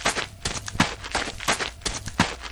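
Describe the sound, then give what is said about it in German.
Quick footsteps of someone rushing toward a man in the morning, a steady patter of about seven or eight impacts over a couple of seconds, growing slightly louder, with no voices. “Ruben ist schon wach und stürmt auf ihn zu.”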